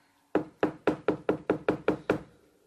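Nine quick, evenly spaced knocks on a door, firm, rapping in a steady rhythm before trailing into quiet. No voices.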